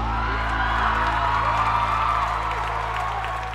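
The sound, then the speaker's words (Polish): An audience claps and cheers in a dense, continuous wash of applause with a few scattered whoops, holding steady for a few seconds before easing off slightly at the end. No one speaks. “Kropnie brawa!”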